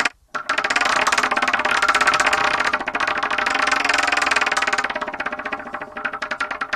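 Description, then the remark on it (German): A prize wheel called the Wheel of Torture spins with a loud, rapid rattle of clicks against its pointer, the ticking gradually slowing and spacing out toward the end. No voices accompany it. “Wir werfen das Wheel of Torture an.”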